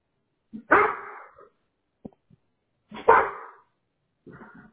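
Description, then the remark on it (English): A dog barks loudly, two sharp, full barks a couple of seconds apart with quiet gaps between, followed by a softer, shorter bark at the end. “My dog does that to me too.”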